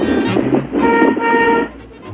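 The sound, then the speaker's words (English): A car horn honks twice from a car following the speaker's car, a shorter blast followed by a longer, sustained one, slightly muffled, with faint background noise and no talking. “Yeah, I got somebody following me, still honking.”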